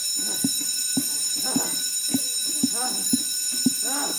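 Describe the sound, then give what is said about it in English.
A bell rings steadily, sustaining a bright high tone while a lower strike repeats about twice a second at a regular pace, with indistinct voices murmuring underneath. “Don't put her back on the bell.”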